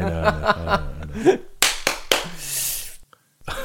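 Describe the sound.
Three loud, sharp hand claps in slow succession, each a crisp slap with a short hiss of decay, following a moment of voiced vocal sounds.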